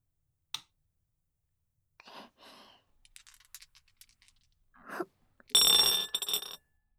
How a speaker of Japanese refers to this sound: じゃあテープレコーダーの録音ボタンを押したら、そうですね、ゲームのルールに従ってサイコロから振り始めますね。